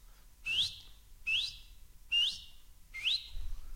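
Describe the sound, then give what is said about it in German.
Someone whistles four evenly spaced, rising notes imitating the rasping, saw-file-like call of a very small bird known locally as the 'little saw file'. Each note is short and bright, with a sharp upward sweep, and stands out clearly against a quiet background. “Das sind die ganz die kleinen Morsala, weil die pfeifen so, wie wenn es der Sog fein tat. Der … kann das.”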